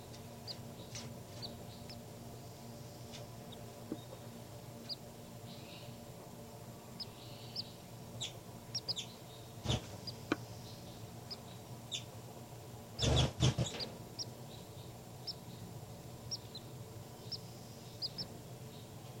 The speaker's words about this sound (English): Baby birds are calling a lot louder now. Point it back at the baby birds.